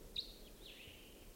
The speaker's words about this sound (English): Decoys just got excited. I think a wild bird is around somewhere.